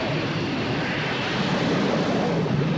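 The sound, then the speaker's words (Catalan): The jet engines of a craft sinking into the sea roar underwater, expelling bubbles in a dense, steady, loud churning rush that holds constant for the whole stretch, with no voices. “Els motors de reacció expulsen bombolles.”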